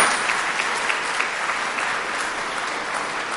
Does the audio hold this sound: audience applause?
yes